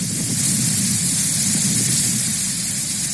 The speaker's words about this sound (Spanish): Esto que escuchamos es la intensa tromba de agua que a primera hora de esta mañana, en torno a las 6:30, caía en Cartagena y que también afectaba a varios municipios de la región.